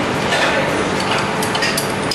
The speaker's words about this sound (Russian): Затем в приготовленный микс мы добавляем немного лимонной кислоты. Две щепотки сахара. И соевый соус. Он придаст кисло-сладкий вкус. Все тщательно перемешиваем.